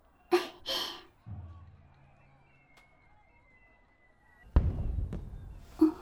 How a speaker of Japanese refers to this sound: あ、花火。そう、もうこんな時間なのね。